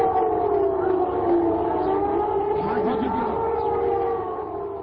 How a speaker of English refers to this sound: First came the sirens and then the explosions that shattered the early morning calm in Baghdad.